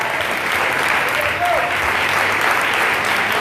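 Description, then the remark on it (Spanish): An audience claps together in sustained applause for God, a dense, steady wash of many hands that holds at an even, fairly loud level throughout. “Aplauda para Dios.”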